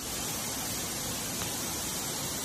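heavy rain downpour

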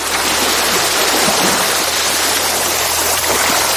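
ocean waves

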